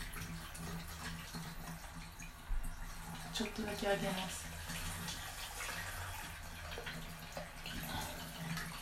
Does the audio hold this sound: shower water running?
yes